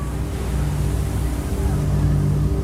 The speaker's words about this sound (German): Nach einer gefühlten Ewigkeit legt das Schiff vom Hafenbecken ab.